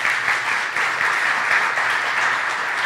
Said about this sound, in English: Isn't technology crazy? Some people are listening to this over their coffee on Wednesday morning, and they just heard you clap for them. That's beautiful thing.